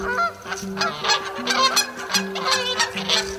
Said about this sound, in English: Canada geese arriving 5 weeks earlier.